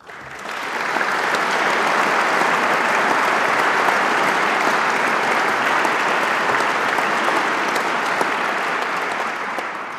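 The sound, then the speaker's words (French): An audience breaks into sustained applause for prize laureates at an award ceremony, a dense, even wash of many hands clapping that swells in quickly and holds steady for the full stretch without any voices. “Je prie les lauréats de bien vouloir se lever et vous de les applaudir.”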